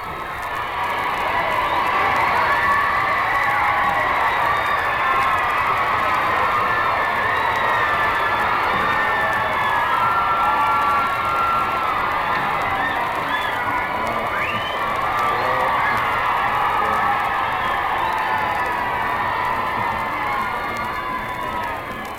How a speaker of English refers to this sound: I think that this is the record crowd through all the years. I'm told more than 42,000 children and a few grown-ups have passed through the gates already. And I suppose by sundown it'll be past 50,000.